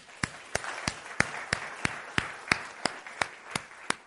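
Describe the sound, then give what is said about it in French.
An audience claps together in a steady, even rhythm, about three sharp claps per second, over a soft wash of crowd noise, with no talking. “Oui, on peut applaudir.”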